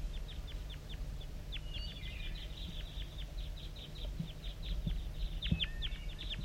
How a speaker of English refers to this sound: I'm getting a lot of calling from the decoys, and those are chitter notes of the wild bird.